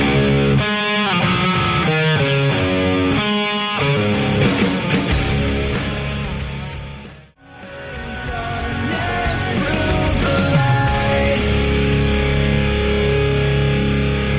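A brand new, loud, heavy rock song played on the radio, with distorted guitars and pounding drums, starting with punchy stop-start riffs, dropping out briefly near the middle, then crashing back in at full intensity.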